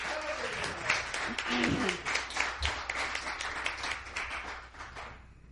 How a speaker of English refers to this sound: Praise the Lord. Give the Lord a cheer.